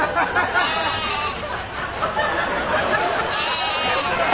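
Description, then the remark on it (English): A herd of goats bleats nonstop at a ranch called Nanadu that keeps over 200 goats, many overlapping cries blending into a loud, dense chorus that fills the whole stretch. “Don't get on Greg's bad side, or you might find yourself at his personal ranch, Nanadu, where he tends and cares for over 200 special goats.”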